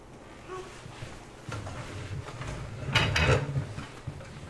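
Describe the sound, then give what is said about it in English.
A chair is pushed across the floor, scraping and dragging in a few rough bursts, growing louder toward a harsh, grinding push near the end, with no talking. “No, don't push the chair.”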